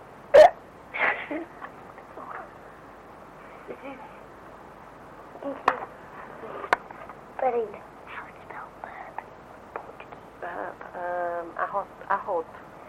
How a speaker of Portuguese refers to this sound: Os arrotos aí. Que isso, senhor? Eu arroto assim todo dia, assim, ó. Não posso fazer agora, não.